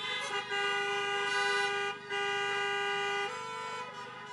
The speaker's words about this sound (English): All right, now here's another little sound check. If you're happy and you know it, honk your car horn.